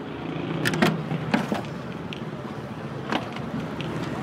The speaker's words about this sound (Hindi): क्यों नहीं भाई, जरूर लाए, मैं गाड़ी में आपका सामान रख दूं। आप बस गाड़ी की डिग्गी खोल दें, सामान मैं खुद रख लूंगा।